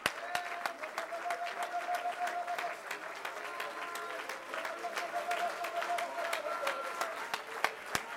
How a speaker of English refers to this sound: Let's give God a hand. Praise right now. Come on, let's clap our hands to Jesus right now.